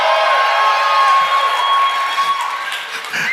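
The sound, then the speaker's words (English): An audience cheers and screams loudly for about three seconds as the married people in the crowd are asked to make some noise, a dense wall of high-pitched shrieks and whoops that holds steady before dipping slightly at the end. “You know, I'm judging the health of your marriage by the decibel of your scream.”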